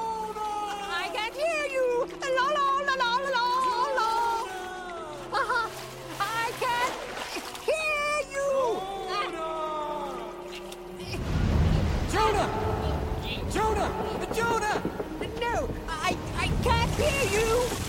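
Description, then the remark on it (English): Loud, rushing storm noise with crashing water and a heavy low rumble takes over partway through, as a leaking boat tosses in rough seas during a severe storm; voices shout over it, and tonal, music-like sounds fill the opening. “We're in a storm like I never seen before! And if we don't do something quick, we're gonna sink!”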